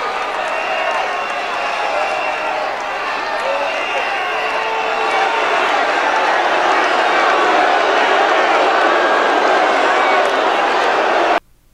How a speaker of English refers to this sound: Okay, so Trump then thanks the police. You can hear the protesters whistling in the middle of his tribute to Steve Scalise.